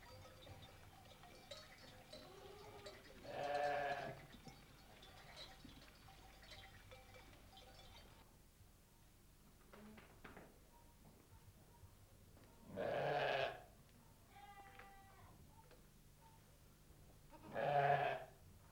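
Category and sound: animal, goats bleating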